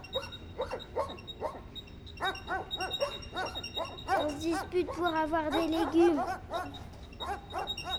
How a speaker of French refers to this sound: Vu que la ville est enflammée, tous les chiens sortent de leur cage, on est envahi de chiens.